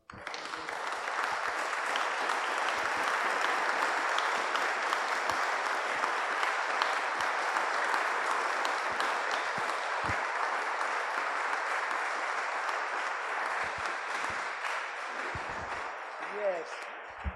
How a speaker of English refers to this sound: We should clap the hands, but not to me, of course, to Jesus, together.